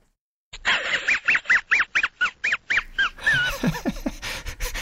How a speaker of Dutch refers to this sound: Is het een lachende hond? Ja. Ja, hè? Ja. Ik zweer dat ik één geluidje op mijn computer heb staan. Ja. Dat is het geluidje van Mudley.